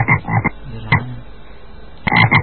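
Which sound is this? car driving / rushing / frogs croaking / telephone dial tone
frogs croaking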